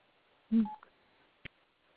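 A short electronic keypad tone from a cell phone button being pressed as someone calls in on a cell phone sounds once near the start, followed a moment later by a brief sharp click, with no talking.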